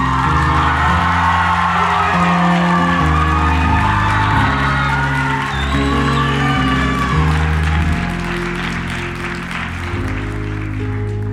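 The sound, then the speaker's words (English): A crowd applauds and cheers loudly and steadily as a KSM graduate is introduced, with scattered whoops rising above the clapping while music plays underneath. The applause holds strong, then eases slightly toward the end. “All right, next up, would you give a round of applause for”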